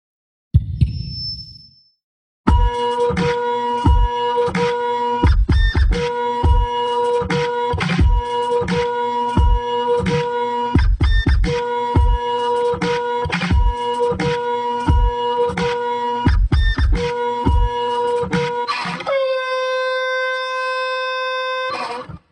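A printer runs with a loud, rhythmic mechanical chugging and whirring for several seconds, then stalls into a steady, sustained electronic tone as it jams. No one speaks.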